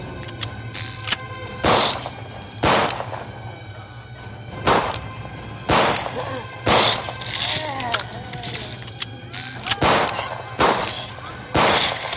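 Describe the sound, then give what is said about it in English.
A gun is reloaded with a run of sharp metallic clacks and thuds, fairly loud, spaced irregularly over a low steady hum. “Reload.”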